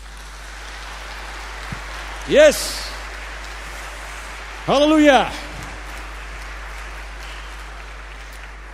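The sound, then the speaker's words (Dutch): A large crowd claps steadily and loudly for the Lord throughout, a dense wash of applause, while a voice shouts two enthusiastic exclamations over it. “En zullen we met elkaar de Heer nu een geweldig, groot, machtig klappen vergeven.”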